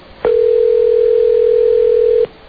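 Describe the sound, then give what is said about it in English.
A steady, unbroken telephone dial tone as a call is placed to the Van Patten house, humming at a single mid-low pitch for about two seconds, starting and stopping abruptly, with only faint background hiss around it and no talking. “Calling the sprawling Casa.”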